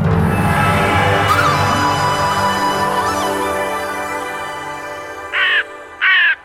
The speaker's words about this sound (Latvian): Pelēks putns ar melniem spārniem, un melnu asti un melnu galvu. Tā ir pelēkā vārna. Viņai ir kārtīgs knābis, jo viņa ir visēdāja.